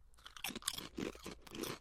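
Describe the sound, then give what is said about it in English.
Crisp, crackly crunching of Neal Brothers potato chips being chewed, in a quick run of several bright bursts that rise and fall over about two seconds, with no talking. “Chip cheers. I'm really nervous to eat these.”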